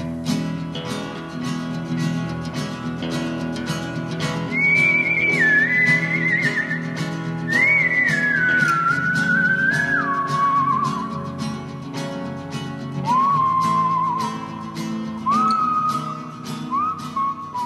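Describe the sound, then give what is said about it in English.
A clear whistled theme tune glides and bends through several phrases over a steady, rhythmic instrumental backing with a regular beat. No one speaks. “Everybody recognize that music? That's our theme music.”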